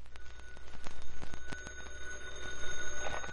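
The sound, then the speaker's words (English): A telephone rings after midnight with a continuous rapid-fire clatter of bell strikes, bright and metallic, holding steady for several seconds with no voices. “It was after midnight when the phone rang.”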